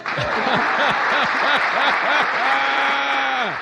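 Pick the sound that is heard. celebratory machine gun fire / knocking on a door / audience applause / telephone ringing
audience applause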